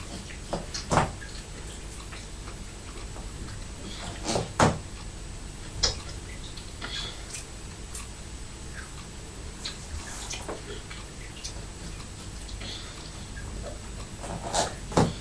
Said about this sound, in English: Hear the tap dripping, can you? Sounds like a clock ticking, tick tock, doesn't it? Tick tock, tick tock.